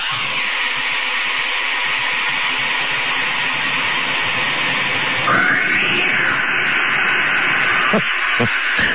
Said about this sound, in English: It's the second one that gets me. Not the first one. The first one is pretty good, as you hear the echo of the cat disappearing down the hole. It's the second little one. There he goes.